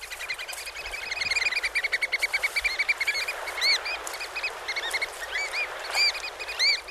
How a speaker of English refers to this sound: That is the American oyster catcher, large bird that dwells along the ocean shores and in salt marshes, and it is among the birds that pass from the coast to the mountains.